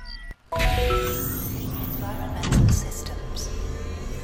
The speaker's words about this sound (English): Now, turn to the sensor to open the door and let's get out of here.